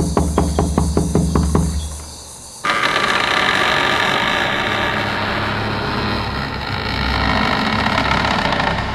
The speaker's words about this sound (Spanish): Toco a la puerta.